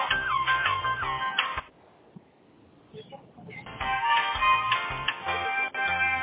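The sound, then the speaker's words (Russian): A phone ringtone plays a bright electronic melody, rings for over a second, pauses briefly, then starts again and keeps going. It is fairly loud, with no one talking over it. “Телефон.”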